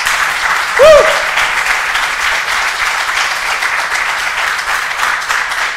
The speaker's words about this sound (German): Und dafür dürfen wir auch mal richtigen Applaus unseren Lobpreisern geben, unseren Musikteam. Oh, ein bisschen mehr.